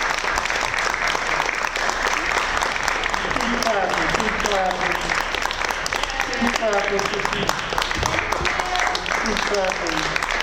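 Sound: audience applause and clapping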